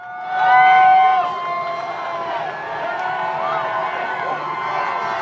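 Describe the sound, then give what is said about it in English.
A large outdoor crowd at a hot championship parade for the Oklahoma City Thunder in the streets of Oklahoma City cheers and whoops continuously, with many overlapping voices and high shouts rising and falling, loudest near the start and staying dense and lively throughout. “Just listen to this crowd.”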